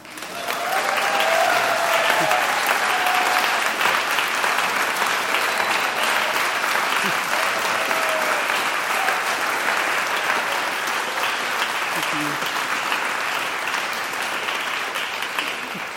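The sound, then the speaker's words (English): Sustained applause from a large audience giving a standing ovation after a silly Dharma song, loud and steady for the full stretch, with dense overlapping clapping and faint cheers mixed in near the start before it gradually thins slightly. “And I sing one like silly Dharma song. It's like, oh yeah, standing ovation.”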